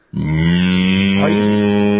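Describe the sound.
A person imitates a cow with a single loud, drawn-out moo that starts abruptly and holds a steady, low, droning pitch for about two seconds, alone with no other sounds.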